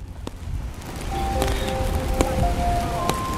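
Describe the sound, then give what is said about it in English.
Steady rain patters on a city street in downtown Brooklyn, New York City, a broad hiss with scattered sharp drops and a low rumble of traffic underneath, plus a few faint squealing tones. “Were you in the rain?”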